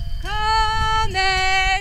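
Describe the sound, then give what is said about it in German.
A drawn-out, tonal animal call in two close parts, loud, as cows are brought down from a mountain pasture in the evening, with a low outdoor rumble underneath. “Abends hole ich die Kühe vom Berg runter.”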